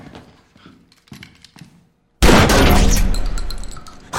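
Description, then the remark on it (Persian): Several dull, evenly spaced blows strike glass as someone tries to break it, then a sudden loud, sustained crashing burst takes over for the last two seconds. No one speaks. “شیشه ها نمیشکنم؟”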